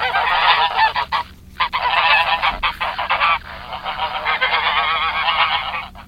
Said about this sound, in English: That sounds like a bird of some sort. Mm-hmm. Yes. Like a goose. Yes. Good job. It's a goose. Good point. Uh-huh. So this noisy, unexpected alarm clock in the park travels in a V formation and honks the whole way there.